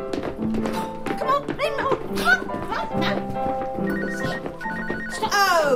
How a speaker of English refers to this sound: Oh, no. Now, whose phone is that?